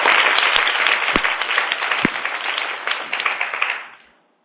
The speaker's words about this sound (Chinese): 很好，掌声鼓励一下，听到了吗？